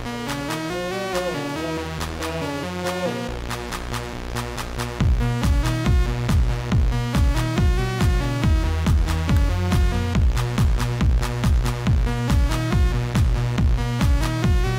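An upbeat instrumental track is played on a radio show, with a bright, buzzy melodic line; after about five seconds a steady pounding beat kicks in and the music grows louder and more driving.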